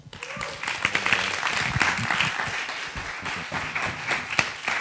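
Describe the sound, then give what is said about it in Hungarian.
An audience breaks into sustained applause to warmly welcome a speaker introduced to bring God's word, a dense wash of many hands clapping at a steady, fairly loud level throughout, with a few faint voices mixed in underneath. “úgyhogy nagyon-nagyon nagy izgatottsággal szeretném őt most felkonferálni, fogadjátok őt nagyon nagy szeretettel, és egy meleg üdvözlettel, egy nagy tapssal.”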